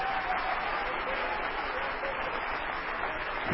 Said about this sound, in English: You can be seated. No, don't be seated. Get up. Clap your hands.